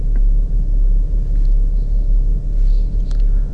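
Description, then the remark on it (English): A large SUV, a Honda Pilot, pulls in close by, its engine a loud, steady low rumble that fills the whole moment with no voices over it. “Who's driving this big car?”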